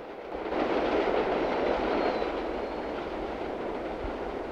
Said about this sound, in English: An elevated train passes by overhead as Murphy continues his long walk.